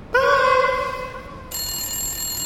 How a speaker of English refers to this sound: Oh, Lord. Hang on. That's my... It sounds like my cellular telephone that I do not use.